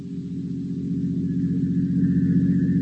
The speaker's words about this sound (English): Only the heat on the glimmering marshes and the decaying, weather-boarded house as a motor car approaches.